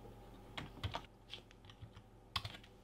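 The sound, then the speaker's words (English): Someone types code on a computer keyboard in quick, irregular bursts of soft clicks, with a sharper keystroke near the end; quiet, with no one speaking. “And the reason that is because we already used A and B, and sorry about that, didn't notice that as I was typing the code.”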